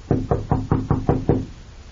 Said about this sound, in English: I'll knock first, just to make sure.